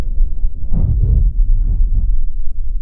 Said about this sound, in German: Es hörte sich fast an wie ein Herzschlag. Nur verzerrt und irgendwie unnatürlich.